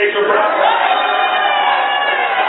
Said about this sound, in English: We're going to have the crowd sounds really loud.